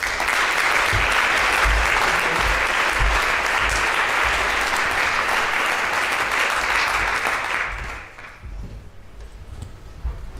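A crowd applauds a speaker introduced to present a theater performance lecture, steadily and loudly for about eight seconds with dense, rapid clapping, then the applause fades into scattered claps and quiet background noise.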